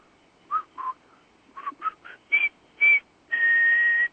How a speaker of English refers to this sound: British whistling, to resist is the question, utter madness reigns.